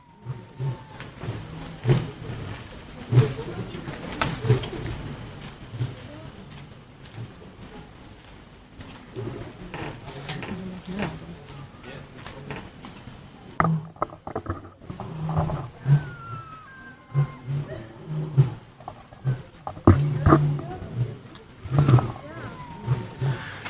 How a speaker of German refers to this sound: Und das ist übrigens ganz normal im Busch. Was ihr jetzt hört, das sind die Löwen. Und die sind nur 1,5 Kilometer entfernt.